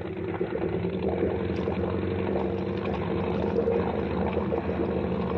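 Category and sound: vehicle, motorboat engine running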